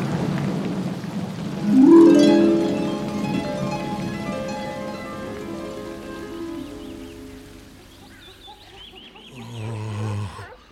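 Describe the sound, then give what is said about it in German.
An approaching thunderstorm with lightning: steady rain hisses beneath deep rolling rumbles of thunder, swelling loudly early on and again near the end, with a sustained humming tone drifting through the storm. “Das Gewitter kommt näher.”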